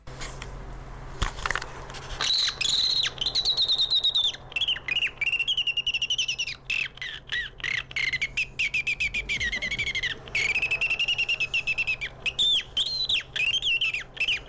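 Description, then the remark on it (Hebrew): A person whistles a long, continuous run of bird imitations: warbling, chirping trills and quick squawk-like notes, loud, with no talking. “שולף פה חיקוי של ציפורים, לכאורה על פניו נשמע זה משהו פשוט, אבל תקשיב איזה יופי.”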